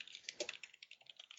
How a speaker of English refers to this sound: Did you lose your keyboard? It's really loud. Sorry.